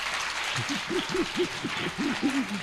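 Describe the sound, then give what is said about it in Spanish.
A burst of sustained, steady applause from a group for a woman, with voices mixed in making repeated rising-and-falling whoops or cheers over the clapping. “Un aplauso para ella, por favor, es que se lo merece.”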